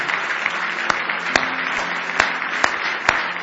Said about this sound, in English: Isn't it good to be in the house of the Lord? Give Jesus a big hand clap of praise.